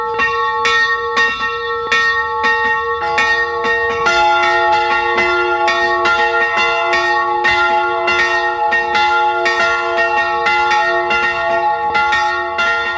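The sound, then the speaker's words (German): Church bells of the St. Georg branch church in Tippitsch, Carinthia, Austria, ring out at noon, steadily and loudly, several bells overlapping in a continuous pealing with rich sustained tones and regular strikes, no voices present. “Sie hören die Glocken der Filialkirche St. Georg in Tippitsch in Kärnten.”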